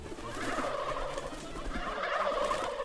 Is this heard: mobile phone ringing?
no